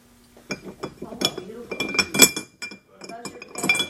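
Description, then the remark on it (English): Three metal keys rattle and jingle inside a box in a quick, bright clinking burst with irregular shakes and brief pauses, with some voices murmuring underneath. “It would be hard to guess that there were three keys in this box, wouldn't it?”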